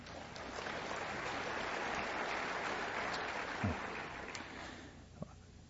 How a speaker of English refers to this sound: I know that wasn't a pervasive clap, I could tell. It was sort of weak.